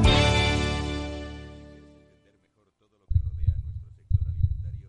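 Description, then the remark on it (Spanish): A bright ringing tone fades away into silence, then a heartbeat sound effect thumps in: two deep, double-pulsed beats, low and heavy, about a second apart. “Escucha el latido de los mercados en Capital Radio.”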